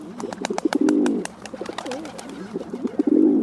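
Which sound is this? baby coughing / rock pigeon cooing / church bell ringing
rock pigeon cooing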